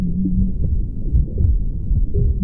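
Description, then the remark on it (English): A mother's heartbeat as heard from inside the womb: deep, soft throbbing pulses buried in a steady low whooshing rumble, with no voices. “Rhythm is there right at the start of our hearing, because we're going to hear the heartbeat of our mother very strongly.”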